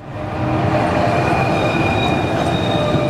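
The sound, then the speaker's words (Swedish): Tram wheels squeal steadily against the rails, a thin high-pitched whine held over a loud, heavy rumble of rolling metal, continuous for a few seconds. “9 av 10 spårvagnar försenade.”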